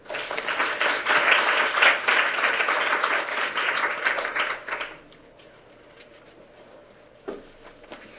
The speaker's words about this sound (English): All right, so I just want to thank all of our panelists. If we could give them another round of applause for their presentations this morning.